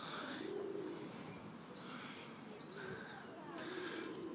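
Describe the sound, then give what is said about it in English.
Doves in a cage coo softly in low, throaty phrases, three or so murmuring calls spaced a second or two apart, over a steady background hiss with faint higher chirps. “And a bit of doving, a bit of cooing from the doves, looking equally bored.”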